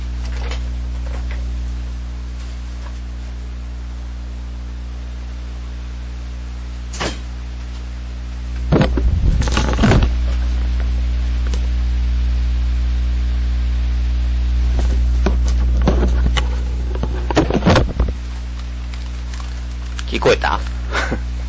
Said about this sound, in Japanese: 崖崩れとか、そう、雨の音。まあ、うちは山沿いやからね。まあ、普段でもよう踏むんやけど。ちょっとだけ待って。窓を全開にして、音どんなもんか聞かせたいから。